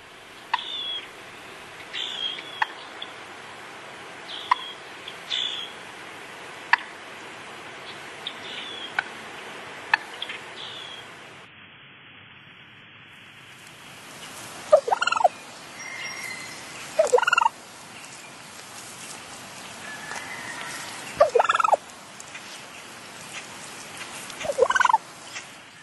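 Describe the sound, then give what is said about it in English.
Wild turkeys give two different types of non-gobble calls heard in fall, put together: first a run of quiet, short repeated notes at a steady pace, then louder, spaced-out bursts of calling against a faint outdoor background, with no talking. “Let's take a listen to what the turkeys might be sounding like this time of year.”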